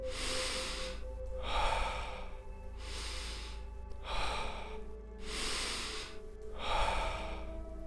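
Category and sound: human body sound, slow deep breathing exercise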